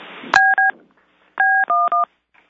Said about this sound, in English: A lot of beeps. I think people are going in and out of mute as I've had to do.